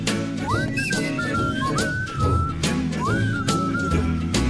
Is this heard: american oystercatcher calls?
no